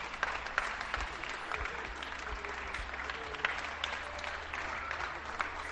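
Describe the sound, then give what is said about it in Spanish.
Steady, dense applause from neighbours on balconies across a neighbourhood in Santiago de Compostela, Spain, many people clapping from a distance with a few nearer claps standing out, continuous and fairly even throughout. “Depende, claro, del sonido que tengamos y cómo lo captemos, y si tenemos un aplauso más cercano tapa el aplauso genérico de todo el vecindario.”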